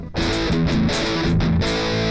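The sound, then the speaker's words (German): A fuzzy, heavily distorted electric guitar plays a short rhythm-guitar riff through an amp, loud, with thick sustained chords and rhythmic chugs filling the whole clip. “Oh, das macht diese sehr fassige Verzerrung, die es damals halt gab, weißt du?”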